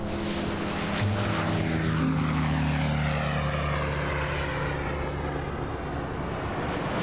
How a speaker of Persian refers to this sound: این هواپیما چرا انقدر نامتعادله؟